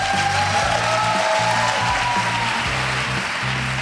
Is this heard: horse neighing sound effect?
no